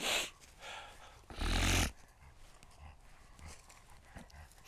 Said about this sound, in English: Hey, this dog keeps sniffing poo-poo.